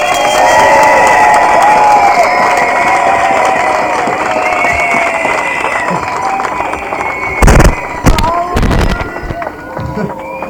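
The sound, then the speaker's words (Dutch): A large crowd claps and cheers steadily and loudly in applause for people who worked hard that week, with whistles and shouts over a dense wash of applause, and a few sharp bangs or thumps near the end. “Even een ongelooflijk goed applaus voor mensen die deze week enorm ingezet hebben.”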